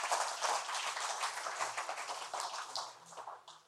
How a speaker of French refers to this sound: Vous êtes capable, moi je suis capable. Une bonne main d'applaudissement pour tout ce que le Seigneur ajoute à notre assiette.